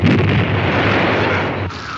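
Loud, dense bursts of firecrackers exploding in a continuous barrage, booming and crackling together into a heavy roar that fades slightly near the end. No voices.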